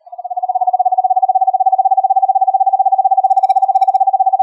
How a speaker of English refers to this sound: Here's the sound of a screech owl at normal speed, which is actually doing binaural beats, which are rhythms that entrain your brain. This one will train your brain into alpha.